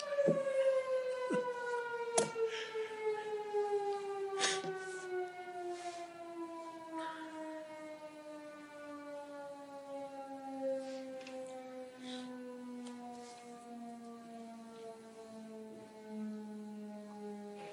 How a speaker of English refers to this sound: The noon whistle just went off. Sorry, I couldn't quite hear you.